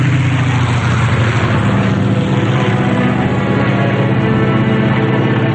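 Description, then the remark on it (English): A steady, loud engine drone from an airplane in flight, with a deep propeller hum and broad roar holding constant throughout, no voices. “She casts a sidelong glance at him as she pilots the plane.”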